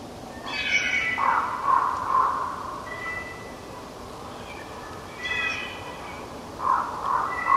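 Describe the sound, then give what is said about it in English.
Soft, breathy whines and yelps from two packs of wolves converging on each other, overlapping in short rising bursts just before they begin to howl, quiet against a steady hiss of background noise, with no one talking. “That's two packs of wolves converging on each other. I call it whisper howling. It's the sound they make right before they begin to howl.”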